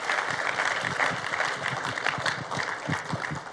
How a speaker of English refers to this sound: Or if you're new to Seaport, we want to welcome you. And we normally do that by clapping for you. So could we just give a round of applause for our first-time visitors?